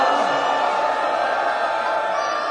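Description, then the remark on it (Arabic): A large crowd of mourners cries out together for Imam Hussein on a night of Karbala mourning, in a sustained, loud wail of many voices blending into one dense roar that fills the whole moment without pause. “وإذا الجسد يتناثر، هذا إمامكم يستاهل صيحة، يستاهل صرخة وحسينا.”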